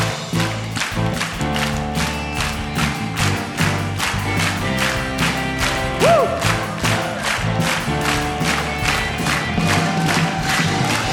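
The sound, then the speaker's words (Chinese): An audience at a church worship service claps in a steady, rhythmic beat while cheering and shouting in praise of God, loud and continuous over sustained instrumental music. “掌声，最大的欢呼归给我们的神，哈利路亚！”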